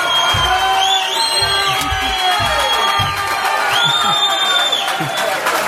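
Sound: crowd cheering and applauding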